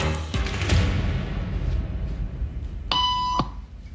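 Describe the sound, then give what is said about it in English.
A single electronic beep, a steady bright tone lasting about half a second, sounds clearly over a room's background rustle and a few earlier thumps and shuffling noises; in a social conformity experiment, the beep is the signal to stand up. “Beep means stand up.”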